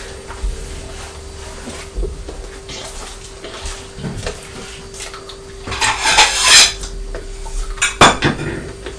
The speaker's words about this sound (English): The cornflake packet making a crunchy sound. They're crunchy to eat and they're crunchy to get in and out of the box, aren't they?